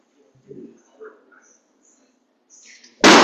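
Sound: balloon popping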